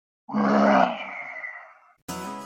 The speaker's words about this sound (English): That roar was from Olivier and Tony-nominated actor Ramin Karimloo.